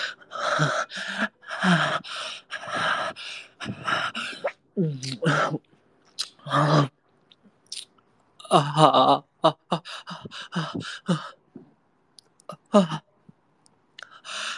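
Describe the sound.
Heavy breathing and panting, close and fairly loud, in uneven bursts of sharp gasps and breathy exhales with short pauses between them, some breaths slightly voiced.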